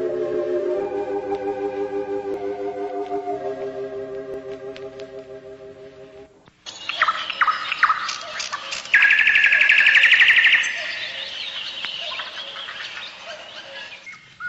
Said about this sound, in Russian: Кукушке с соловьями радость детства. Послушайте родные голоса, они любимой родины наследство, лишь ими живы русские леса.